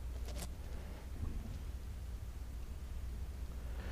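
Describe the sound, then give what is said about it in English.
A violent thunderstorm rumbles heavily, with deep continuous thunder, steady pouring rain and gusting wind filling the whole scene, with no voices. “And a tempest. Whipping winds like a hurricane. A tempest. Violent storm.”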